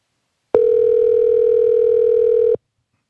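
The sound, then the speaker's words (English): A single loud, steady telephone tone sounds for about two seconds, starting and stopping abruptly, like a call ringing through on the line to Jeff Springer during the Mick Sunday Morning show. No one speaks. “Let's see if we can get Jeff Springer on the phone with us.”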